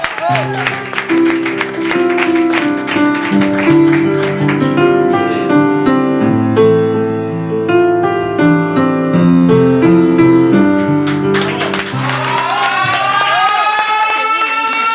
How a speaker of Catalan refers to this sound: Fort aplaudiment